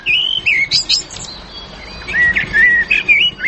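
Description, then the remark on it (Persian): Caged songbirds bought from abroad, canaries among them, chirp and trill in quick, bright bursts, a lively phrase, a brief lull, then another run of warbling, clear with no voices. “پرنده کلش پرنده های خوش آواز است، سایره است، گلسر است، کنری است.”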